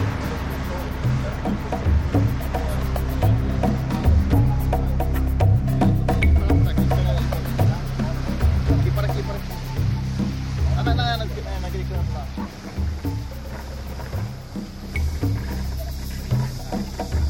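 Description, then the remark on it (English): A river boat engine on the Rio Branco drones steadily and loudly throughout, a deep continuous rumble with a throbbing low hum, while a voice talks over it. “The boat's much too noisy for approaching close to manatees because their hearing's really good and they'll be long gone before we spot them.”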